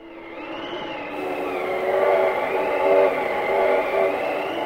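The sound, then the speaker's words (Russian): A steam locomotive runs with a steady, heavy mechanical rumble and humming tones, growing slightly louder over a few seconds. No voices are present. “Так, в Барнауле была создана полностью женская паровозная бригада «8 марта».”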